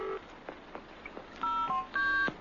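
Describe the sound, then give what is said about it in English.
Telephone keypad dialing tones on a public phone calling a helpline: a few soft taps, then two longer steady dual-pitched beeps in quick succession, clear with nobody speaking. “You are about to be connected to Lifeline.”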